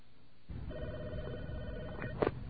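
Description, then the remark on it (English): A steady electronic phone ring sounds over a hissy, muffled line as a collect call comes in, then a sharp click near the end as the receiver is lifted. No one speaks. “Now, what does the person picking up the phone hear?”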